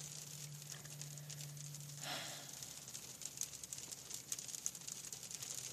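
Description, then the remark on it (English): Steady, soft rain patters continuously with occasional sharper drips, a low hum running underneath for the first couple of seconds; no one speaks. “It's these rainy days when I need you the most.”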